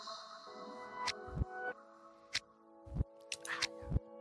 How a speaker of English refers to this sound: I decided to start sipping teasy before the podcasties because of I felt like tea would help my voice out. You know what I'm saying? Instead of drinking the coffee, so let me get a sip of the tea.